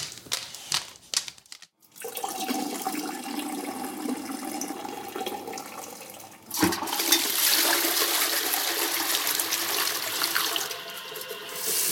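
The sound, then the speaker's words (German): A few sharp clicks, then a toilet flushes with a steady watery rush that swells into a louder, hissing surge of refilling water, with no voices. “Ich gehe noch mal schnell Pipi machen.”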